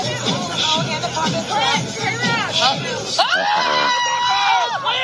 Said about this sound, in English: He lit it on fire. Now watch him. Everybody else is screaming.